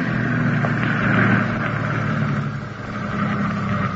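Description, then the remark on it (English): An ambulance engine drones steadily as it drives along a road, a continuous low rumble with a faint hiss on top, even in loudness, with no voices. “There's a dirt road just ahead on the left. Will you drive the ambulance in the unpark?”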